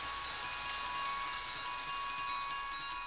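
Heavy rain pours down in a steady, dense hiss, holding the same level throughout with no voices and a faint high electronic tone running beneath it.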